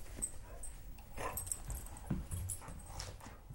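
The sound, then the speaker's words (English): An 8-year-old black Labrador retriever guide dog whimpers softly in short, faint bursts, mixed with shuffling and light movement noises; no one speaks. “What a good dog.”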